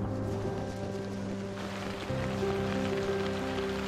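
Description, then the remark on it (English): Heavy monsoon rain pours down steadily on a Rohingya refugee camp during the monsoon season, drumming on surfaces with a dense, continuous hiss, while a low, steady hum lingers underneath throughout. “Here comes the rain.”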